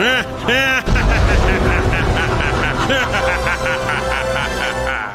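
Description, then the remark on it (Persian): A loud jet engine of a spaceship roars steadily after a brief start, a thick rumbling drone that keeps going for several seconds while voices talk over it. “فقط با جت میشه از اینجا خارج شد. خوبه که سفینه ما جتی جتیه.”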